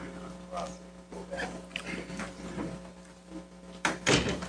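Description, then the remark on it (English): A door is pushed shut with one solid thump near the end, preceded by faint murmuring conversation of people in the hallway and a steady low hum. “Could you ask the folks in the hallway to take their conversation elsewhere? It's somewhat distracting. Or shut the door, one or the other.”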